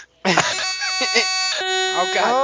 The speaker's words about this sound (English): It's like an air horn right in its face.